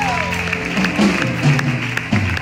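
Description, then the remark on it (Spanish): An audience claps loudly and steadily, a dense wash of applause mixed with shouting and cheering voices throughout. “Vamos, y le va a aplaudir a la de fuerte.”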